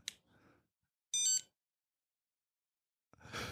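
A single short, bright electronic telephone ring sounds once, loud, framed by soft breathy noises before and a rushing exhale-like hiss after.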